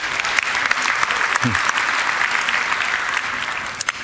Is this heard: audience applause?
yes